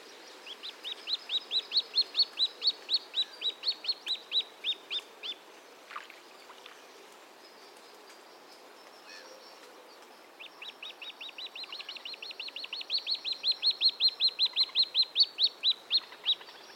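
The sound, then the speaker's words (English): Two long bouts of rapid, insistent high piping from humbug-striped waterbird chicks begging a parent for food, each a steady string of thin repeated peeps, separated by a few seconds of quiet outdoor background. “The nest can be very difficult to locate, so the most common evidence of successful breeding is seeing the humbug-striped chicks out on the open water or riding on a parent's back, begging for food with this piping call.”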